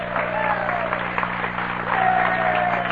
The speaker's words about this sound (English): And wherever Ernie is tonight, wherever the vendors of the world are tonight, living their tiny lives, give them an applause. Hey, for the vendors!